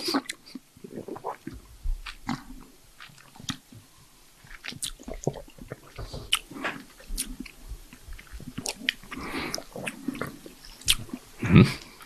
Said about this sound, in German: Wir schmatzen hier so alle vor uns hin, wundern uns über diesen Wein. Also wenn es still ist, ist es meistens gut.